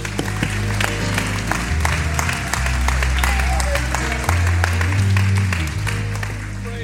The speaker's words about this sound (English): We give you praise and thanks. Oh, why don't we clap our hands and just magnify him one more time.